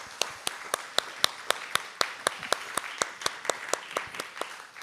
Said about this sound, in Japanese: 最後に、ですね、お祝いの拍手をして終わりたいと思います。おめでとうございます。